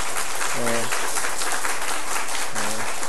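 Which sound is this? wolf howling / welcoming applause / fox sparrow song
welcoming applause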